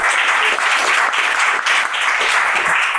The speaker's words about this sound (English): And what podcast would be complete without some applause for our first-year